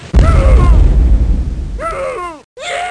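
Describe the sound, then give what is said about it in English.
A sudden, loud video game explosion of an exploding shell booms and rumbles on, with wailing, voice-like cries over it as a game character catches fire and runs around screaming, then a brief silence and another cry. “But even those aren't my favorite feature, because when a person gets too close to an explosion or gets hit with an exploding shell...”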